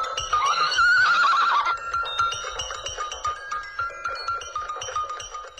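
A horse whinnies loudly and shrilly for about two seconds as a black knight mounts it, its quavering call rising and falling, then fades into softer tonal snorts and faint rustling with no voices.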